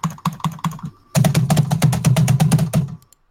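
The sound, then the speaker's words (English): Crisp clacking of keys on a mechanical keyboard: a few spaced keystrokes, then a brief pause, then a fast, steady burst of rapid typing that stops abruptly. No voices. “I can hear every click and keystroke.”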